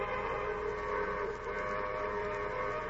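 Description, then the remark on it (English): A train whistle at a railroad station sounds in one long, steady, sustained blast, signalling that the train will stop, fairly loud, with a rough, noisy edge and no voices over it. “there's a whistle, Roy. She's going to stop all right”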